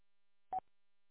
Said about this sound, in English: Yep, still sitting here listening, trying to hang up on a phone call. The phone's plugged in, buzzing on my bench.